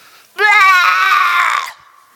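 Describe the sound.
A single loud, piercing, blood-curdling scream from a person bursts out suddenly during prayer in tongues and holds at a shrill, strained pitch for over a second before cutting off, with no other sounds around it.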